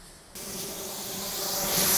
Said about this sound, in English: But at length, there is a hissing sound, and suddenly I see a Martian mounted on his machine, spraying the air with a jet of steam as if to dissipate the smoke.